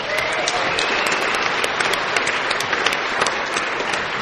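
A crowd applauds steadily, dense clapping filling the room at a fairly loud, even level for several seconds with no voices on top.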